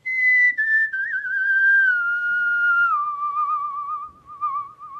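person whistling a tune

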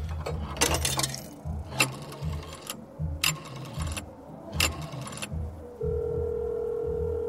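telephone call ringing tone

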